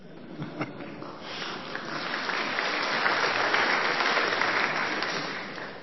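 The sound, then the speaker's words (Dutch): A concert audience claps steadily in appreciation of the concert, starting with a few scattered hands and swelling into dense, sustained applause that holds at a strong, even level for several seconds. “Als u het concert gewaardeerd heeft, willen we toch u de mogelijkheid geven om dat niet alleen in applaus tot waardering te brengen, maar ook in een gift.”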